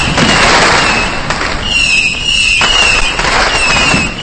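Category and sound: impact, firecrackers and fireworks exploding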